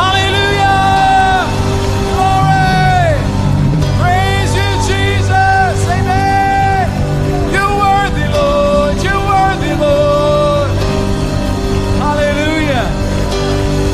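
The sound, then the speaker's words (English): A crowd of many voices shouting praise to the Lord aloud at once, loud and continuous, with rising and falling whoops layered over a steady low rumble. “Oh, it's great to praise the Lord with clapping, but can we just speak our praise to the Lord?”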